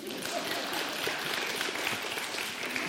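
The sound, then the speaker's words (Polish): A crowd claps steadily, a dense, even wash of many hands with no clear individual beats, sustained at a fairly constant level for the whole stretch with no voices. “Jak jedna osoba klaszcze, to wszyscy klaszczą. Alleluja, klaszczemy.”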